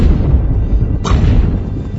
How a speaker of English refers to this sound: Distant thunder.